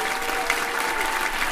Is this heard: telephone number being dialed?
no